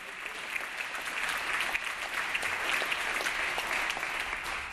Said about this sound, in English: And you can applaud on that. Republicans, you can applaud. Come on.